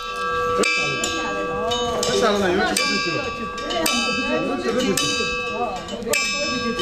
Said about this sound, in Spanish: Estas campanadas serán de alguno de los monasterios del Tíbet.